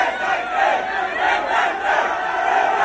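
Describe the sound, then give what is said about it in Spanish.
A loud, dense crowd roars and shouts without pause in a racing pit lane as Fernando Alonso comes out to the pits, a steady wall of many overlapping voices swelling slightly in waves, with no single speaker standing out. “este corte la que se ha liado cuando ha salido Fernando Alonso a boxes”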